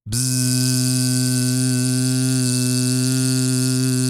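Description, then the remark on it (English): A single person inhales, then exhales on a steady, loud voiced buzz held on one pitch for about four seconds without a break, a dense harmonic drone, demonstrating a timed vocal buzz-hold exercise. “Inhale, exhale on buzz.”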